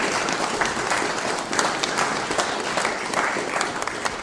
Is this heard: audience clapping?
yes